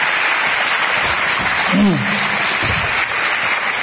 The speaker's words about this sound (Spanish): Bueno, un aplauso muy fuerte a los dos. Muchas gracias.